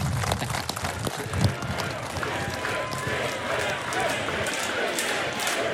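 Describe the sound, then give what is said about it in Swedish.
A large audience of Sweden Democrats (SD) sympathizers gives a standing ovation to Paul Andersson and the Moderates, applauding steadily for several seconds, a dense wash of clapping with cheering and crowd noise mixed in, holding at an even, loud level throughout. “Paul Andersson och Moderaterna får stående ovationer från SD-sympatisörerna i publiken.”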